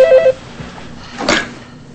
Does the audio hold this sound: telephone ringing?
yes